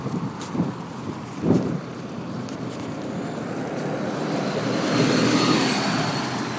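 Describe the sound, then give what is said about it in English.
A bus drives past on Lambeth Bridge under a hazy blue sky, a broad roaring engine and road rumble that steadily builds and swells to its loudest near the end, with a faint high whine on top and no voices. “That is the sound of our bus going past us on Lambeth Bridge, which is where we are, funnily enough.”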